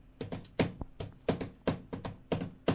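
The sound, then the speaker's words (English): Rapid, rhythmic tapping imitates drumming on a drum pad, made by a person upstairs: a dozen or so dull thumps and taps in an uneven beat, fairly loud, with no talking. “So this clown above me is making this sound.”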